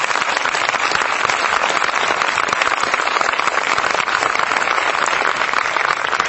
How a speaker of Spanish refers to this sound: Un fuerte aplauso.